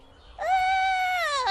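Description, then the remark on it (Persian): A puppy, Copper, tries to howl like a hunting dog, letting out a single short, high-pitched howl that rises at the start, holds steady, then dips at the end, sounding like a toilet flush. It's loud, with no talking around it. “این که صدای سیفونه، گفتم زوزه.”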